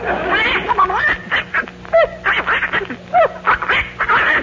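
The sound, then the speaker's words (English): A duck named Abigail quacks repeatedly in short, nasal, wavering bursts that sound plaintive and complaining, fairly loud, with brief gaps between calls. “That's an unhappy duck.”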